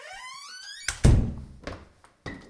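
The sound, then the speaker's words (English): A door leading down to the archives creaks open with a long, wavering squeal, then slams shut with a heavy thud, followed by a few lighter knocks and bumps as it settles. “God, that door sounded creaky today, didn't it?”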